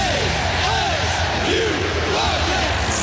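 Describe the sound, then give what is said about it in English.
A loud football stadium crowd roars continuously, with overlapping shouts and rising, chant-like voices swelling through the dense wall of noise for the full few seconds. “Hear the roar. Scream the chant.”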